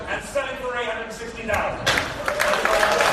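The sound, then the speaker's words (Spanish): A man's voice speaks over a murmuring crowd at an art auction, then the bidders break into steady, dense applause as the painting Girl with Balloon sells for about 1 million euros; the applause builds and keeps going, loud and continuous, with the talking buried beneath it. “Y de todos los que participaban en la subasta, empiezan, después de aplaudir, que lo hemos escuchado, empiezan a quedarse perplejos”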